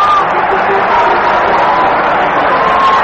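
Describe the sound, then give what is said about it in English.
A big baseball stadium crowd stands and cheers for Cincinnati pitcher Jim Maloney after his 15th strikeout, a called strike three, completes nine no-hit innings: a steady, loud roar that holds without a break, a dense wash of many voices with no single words standing out. “The crowd standing and cheering for Big Jim Maloney, Cincinnati's ace right-hander”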